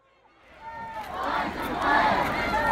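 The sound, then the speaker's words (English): A protest crowd shouting in the streets of Denver over the death of Elijah McClain, the noise swelling from quiet over the first second into a loud, dense, sustained roar of many voices yelling together. “People poured into the streets to protest.”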